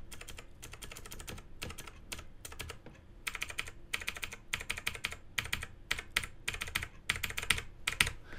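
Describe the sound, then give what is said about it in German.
Rapid, clicky keystrokes from a Razer BlackWidow Chroma mechanical gaming keyboard, typed in quick bursts with brief pauses, fairly loud, with no voices. “Das heißt, wenn du eine Taste drückst, hast du dieses Klicken, dieses Klickgefühl.”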